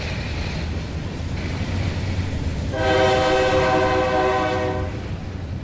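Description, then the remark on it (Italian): A freight train rumbles past along the Mississippi on the Wisconsin Great River Road with steady low-frequency noise, then a loud, sustained multi-tone horn blast sounds from about three seconds onward, ringing over the rolling clatter. “In auto lungo la Wisconsin Great River Road, 250 miglia, 33 cittadine lungo il Mississippi, ascoltando buona musica locale alla radio e pagando in decibel il diritto di passaggio ai treni merci.”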